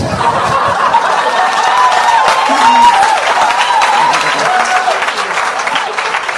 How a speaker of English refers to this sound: This is where you applaud.